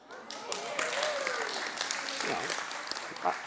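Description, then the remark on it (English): A church audience bursts into steady applause after the preacher says his two-year garden job is finished, many hands clapping in a dense, continuous patter that holds at an even level, with a few voices murmuring and calling out underneath. “I didn't expect to clap, but, you know, allowing Christ in our hearts, that's what he does.”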